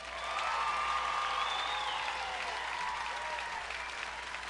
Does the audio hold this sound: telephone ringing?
no